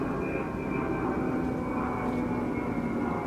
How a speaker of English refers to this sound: I have to wait for the plane.